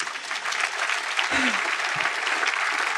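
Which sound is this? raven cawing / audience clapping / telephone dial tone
audience clapping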